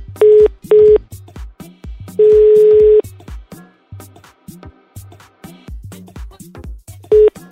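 Loud telephone line tones cut in after the call drops: two short beeps, a longer steady tone, then another short beep much later, all over a rhythmic background beat.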